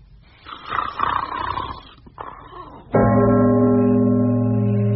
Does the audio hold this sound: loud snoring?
yes